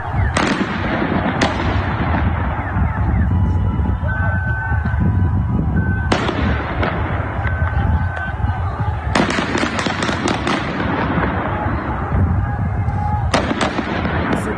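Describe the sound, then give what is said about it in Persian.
Sharp gunshots crack out in scattered bursts, some single and some in quick clusters, echoing off buildings over a loud, continuous background of crowd noise and street commotion, in a city in Iran during protests with a heavy presence of security forces. “گزارش‌ها از حضور پررنگ نیروهای امنیتی از واحدهای مختلف نظامی حکایت داره و صدای شلیک گلوله هم شنیده شده.”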